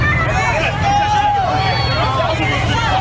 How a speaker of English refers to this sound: And you can see that they begin to shout at the Trump supporters. He gets out of his truck. They're screaming at the Trump supporters' truck.